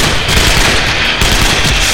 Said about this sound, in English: Kane heard Grant open up with his own blaster, and Zakat's Tokarev blazing.